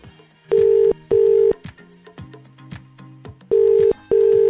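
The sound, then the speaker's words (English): Four loud, steady electronic beeps from a phone keypad being pressed, arriving in two quick pairs, with quiet background music playing between and beneath them. “You know what to do if your phone rings. Let's start pressing some buttons here and see what we get.”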